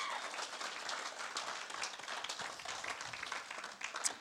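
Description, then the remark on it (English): A crowd breaks into sustained applause for a young woman who was recently baptized, many hands clapping in a dense, steady patter that holds at an even level throughout, with no voices rising above it. “I don't even know if I'm allowed to say her name, but let's give her a massive round of applause, because that is that.”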